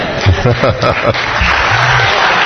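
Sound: audience clapping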